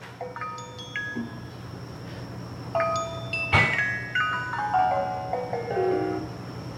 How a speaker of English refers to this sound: And you can hear there's like a chiming, a vibraphone chiming here. The software that Penny Jean Gracefire used is designed to only provide a feedback audio signal when my brain was operating within the desired thresholds.